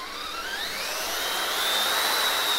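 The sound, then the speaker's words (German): A chainsaw runs continuously through a very large 150-kilogram block of ice at an ice factory, sawing it into 5 cm thick slices, its motor whine climbing steadily in pitch over a loud, hissing grind, with no voices. “Die beiden empfangen mich mit einer Kettensäge in der Hand und einem sehr großen Eisblock, 150 Kilogramm.”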